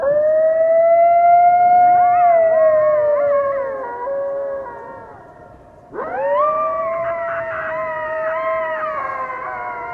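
A coyote howls in two long, sustained, wavering calls, with fainter overlapping yips and howls from others weaving around the main voice. The sound is loud, with no talking.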